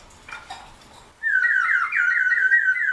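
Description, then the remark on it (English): A water-filled whistle brought back from New Zealand is blown, giving a loud, bubbling, warbling trill around one to two kilohertz that wavers continuously, like birdsong or a frog, after a brief soft breathy lead-in. “I'm just blowing in it. I'm not even doing anything. Oh, because of the water. Yeah. It's got water in it.”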